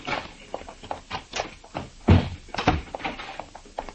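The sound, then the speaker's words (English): A door is opened with some rattling and clicking, then thuds shut with a heavy bang, followed by a few more knocks and bumps. “There's only one way she could have gone, through here. The door's open.”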